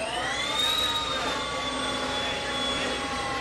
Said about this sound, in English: That jet-like noise is the sound of Project Livewire, Harley's newly unveiled electric motorcycle.